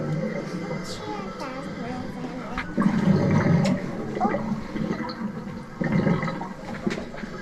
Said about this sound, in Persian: اینجا مثلا صدای دریاست.